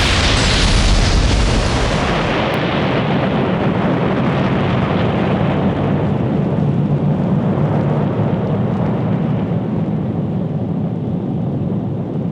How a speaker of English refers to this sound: What you have just experienced are weapons of war from the sister world below us, Earth.